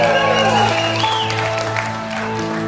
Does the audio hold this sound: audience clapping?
yes